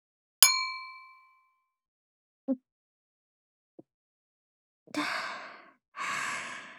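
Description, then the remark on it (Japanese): Two glasses of alcohol clink once in a toast with a bright, ringing chime that fades over about a second, followed by a couple of faint soft sounds and then two breathy exhales. “まずは乾杯しようか。”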